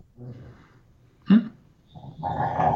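A dog growls in the background in low, rough rumbles, breaking into a brief, sharper outburst midway before the growling swells again, with no one speaking.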